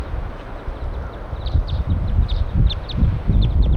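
bird, wild bird calling

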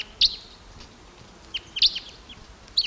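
bird, crossbill calls

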